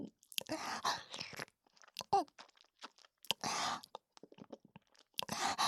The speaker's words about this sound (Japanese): 口の中でくちゅくちゅして味わって。